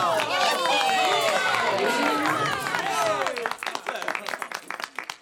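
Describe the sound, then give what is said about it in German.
A large circus audience cheers and whistles loudly with excited voices, climbing onto the benches, then settles into dense, rapid clapping from many hands, energetic throughout. “Die Zuschauer klatschen und pfeifen und steigen vor Begeisterung auf die Bänke.”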